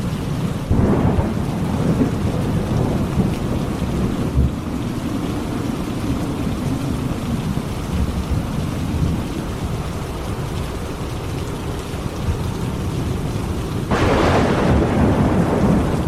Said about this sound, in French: Un orage affreux s'éleva. Les vents sifflaient déchaînés. Le tonnerre grondait au milieu de 1000 éclairs.